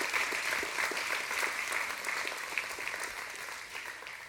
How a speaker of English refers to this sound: Can we give God a round of applause for the life of Pastor Lance and Dee and their wonderful family?